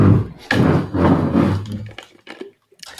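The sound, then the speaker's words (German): A front door is opened after the doorbell rang: a sudden wooden thunk followed by a second or so of rumbling handling noise, then a few sharp clicks and light knocks as it settles. “Ich muss kurz die Tür aufmachen, es hat geklingelt.”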